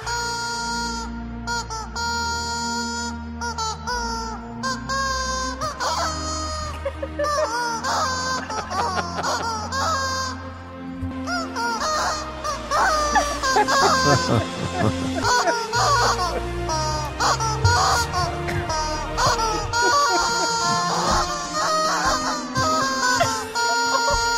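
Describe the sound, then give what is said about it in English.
A blue bowling ball rolls over a series of rubber chickens, their loud squeaks and squawks tumbling out in quick succession to form a wavering tune over a low rolling rumble, with no talking; a cover posted on TikTok. “Features a blue bowling ball rolling over a series of rubber chickens.”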